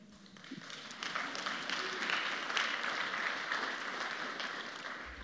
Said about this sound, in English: That applause is for him. It wouldn't have happened without him.